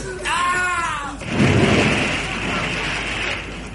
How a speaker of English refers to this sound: What was that? I heard a splash. Yeah, that was me, sir. I dropped one of my oars in the water.